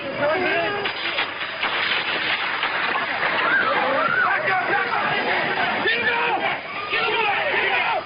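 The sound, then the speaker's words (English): A panicked crowd in Washington during the assassination attempt on President Ronald Reagan, with many voices shouting and yelling over one another in a loud, unbroken din of commotion as people scramble for cover, for the full eight seconds. “The sounds change to pandemonium.”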